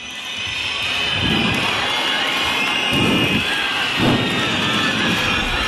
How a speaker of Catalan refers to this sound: Tenim l'helicòpter per aquí sobre? Doncs esperarem.